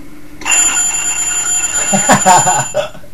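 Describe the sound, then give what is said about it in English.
An alarm clock bell bursts into loud, continuous ringing, a steady metallic clatter that holds without pause, while voices briefly break in over it toward the end. “That's your wake-up call. I love it. I bought another alarm clock.”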